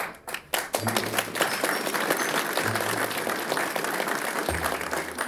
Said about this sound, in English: The audience clapped for Abagnale. Can you friggin' believe that? A round of applause for a con man getting an ethics award?